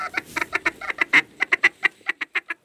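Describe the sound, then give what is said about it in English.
A rapid series of nasal duck quacks from a hand-blown duck call, blown by a duck hunter to attract ducks, about a dozen short bursts in quick rhythm, fairly loud, with no talking. “He blows them occasionally to attract the birds. He's the one that's making this noise right now.”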